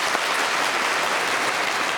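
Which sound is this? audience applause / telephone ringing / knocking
audience applause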